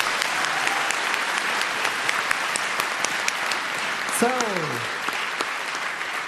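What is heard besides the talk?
audience applause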